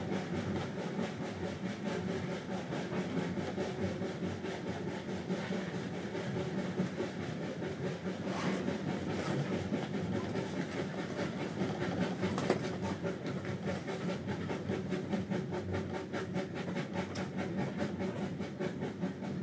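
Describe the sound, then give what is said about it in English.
A heritage train rolls steadily along the rails through the Shropshire countryside, a continuous loud rumble with rhythmic clattering of wheels and a faint hiss, lasting throughout with no voices. “In a way, they're more pleasing than the modern train, aren't they?”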